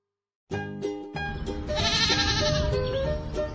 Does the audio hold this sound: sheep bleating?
yes